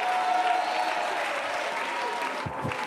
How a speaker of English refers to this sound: Clap your hands to the Lord and give God the praise.